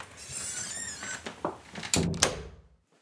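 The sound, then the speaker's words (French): A door of a house creaks and squeaks as it swings, then shuts with a few solid thuds, the last one landing firmly before everything falls silent. Fairly loud, with no voices. “Là, c'est la seule porte de la maison qui est fermée en permanence.”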